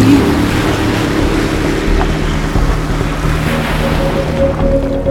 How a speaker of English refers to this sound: Here she comes, the noisy tourist of a jet ski.